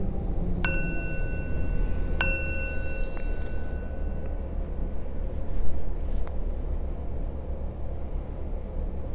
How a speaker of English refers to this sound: I'll ring the bell and we'll begin.